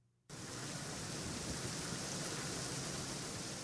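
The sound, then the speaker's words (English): A heavy Arizona monsoon rainstorm starts abruptly after a brief quiet moment, then holds as a loud, dense, steady roar of rain with a low rumbling undertone of thunder. No voices are heard. “You can feel when a monsoon storm is coming.”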